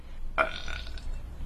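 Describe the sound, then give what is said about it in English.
A single loud, drawn-out baby burp erupts abruptly after the baby is joggled up and down on a knee, rumbling for about half a second before fading, standing alone against a quiet background with no talking. “Then Baby opened his mouth, and out came a loud burp.”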